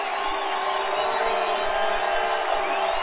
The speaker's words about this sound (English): Fourth down, crowd to their feet. You can hear them.